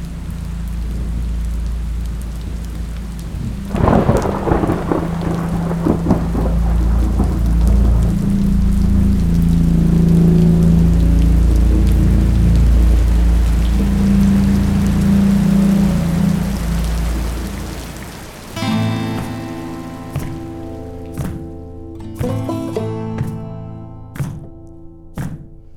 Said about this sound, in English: Until one day, the rain began.